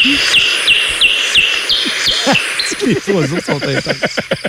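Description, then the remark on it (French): Birds chirp intensely outdoors in nature, with a loud bird repeating sharp high chirps in a quick, steady rhythm over a dense background of other birdsong that grows busier toward the end. “Les oiseaux sont intenses. Les oiseaux sont là, sont agressifs.”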